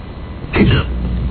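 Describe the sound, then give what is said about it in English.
A single loud, abrupt hiccup lasting under half a second, voiced and throaty with a quick upward vocal sweep. It sounds like a person imitating a hiccup with their voice, over a low background hum. “Oh, my God, that's the worst hiccup I have ever heard.”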